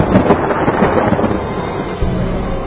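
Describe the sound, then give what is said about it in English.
Loud, violent thunder rolls and crackles without pause for a few seconds during a storm with lightning, a dense rumble with sharp bursts and no voices. “As the atheist got up to leave, there was violent thunder and lightning.”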